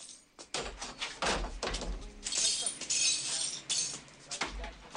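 Broken glass and damage being swept up in a cafe: repeated scraping broom strokes push shards that clink and tinkle in bright, uneven bursts, with a few low thuds between the strokes.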